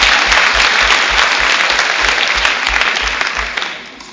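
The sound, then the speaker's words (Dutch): An audience at a church service applauds steadily for some children, a dense wash of many hands clapping at even loudness throughout, with faint rhythmic low thumps underneath before it starts to thin out near the end. “Nou, applaus voor deze kids.”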